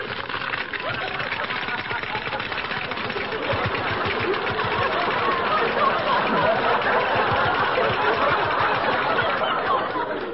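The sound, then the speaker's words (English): Loud, dense crackling and popping of a great big bowl of breakfast cereal after cream is poured on it, rattling on steadily with a busy, rapid, clicky texture for about ten seconds. “They've stopped crackling.”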